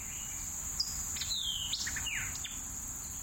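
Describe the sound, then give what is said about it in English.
Birdsong on Cave Mountain Road in Newton County in early fall: short, high whistles and descending chirps in quick irregular bursts, over a steady high-pitched insect drone and a low rumble; no voices. “As I got up on the mountain in the first fall days, I heard lots of songs.”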